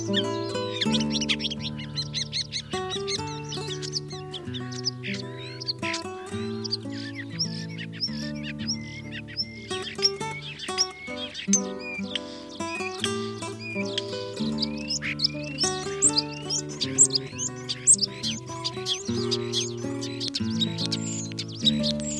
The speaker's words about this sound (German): Das war der Star.